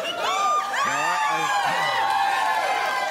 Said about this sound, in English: Happy crowd. These people are crazy.